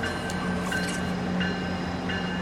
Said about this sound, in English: Oh, go train, go train, go train. I know you love it. I know you love it as much as I do.